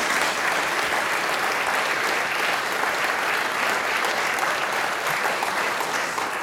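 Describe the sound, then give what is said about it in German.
An audience in Birching am Traubenberg in Franach claps steadily to welcome a guest, a dense, even wash of hands lasting several seconds at a constant loudness, with no voices over it. “Das ist einmal dein Applaus.”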